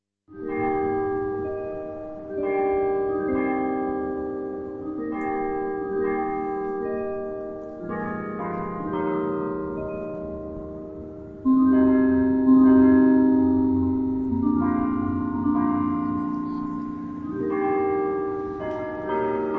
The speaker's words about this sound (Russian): И поэтому у нас не было такой традиции, чтобы обязательно колокола на башне играли какую-то специфическую мелодию. Ну вот пример западной мелодии, как это звучало.